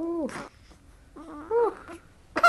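A two-week-old newborn girl, held in her mother's arms, fusses with a few short, strained whimpering cries, three brief bursts separated by quieter breathy pauses, and no one speaking.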